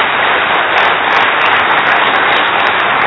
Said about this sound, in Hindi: अपने लिए ताली बजा लो।